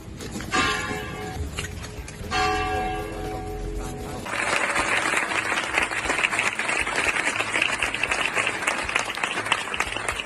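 A few resonant bell strikes ring out, then a large crowd of family, friends and neighbours bursts into sustained, dense applause as a coffin arrives at the church of Nuestra Señora de la Palma in Algeciras, Spain, continuing steadily and loudly to the end, with no speech over it.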